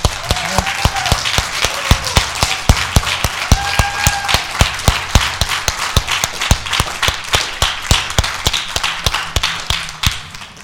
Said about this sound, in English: Church, if these heroes have impacted your life as you have lived here in Wakulla County, then I want you to let that be heard right now with your most grateful applause.